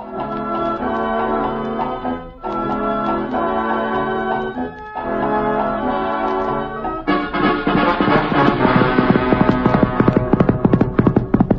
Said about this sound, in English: It's a beastly hot day at the Bar Cheerio Ranch. Located in Arizona, one of His Majesty's last outposts. The film begins as Texas Jack, our ruthless and yet beloved cowhand, rides up to the ranch on Reginald, the Wonder Horse.